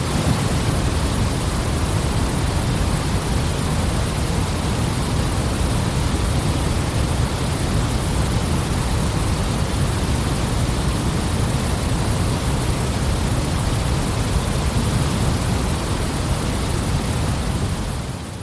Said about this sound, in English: This is my customised white noise, which is like waterfall plus rain plus... I love it.